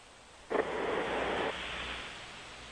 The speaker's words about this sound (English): Now, that's snoring. It's in the cadence of a snore.